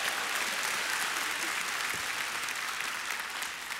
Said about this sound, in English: Look at you all today. Look at this crowd. Give yourselves a hand. Come on.